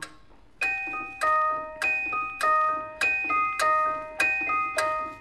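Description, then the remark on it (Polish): Clock ticking rendered as a steady run of bright, bell-like ticks, about one every half second, each ringing briefly before the next. Clear and alone, with no voices. “I znów zegar w cichych tonach sen na oczy dzieciom śle.”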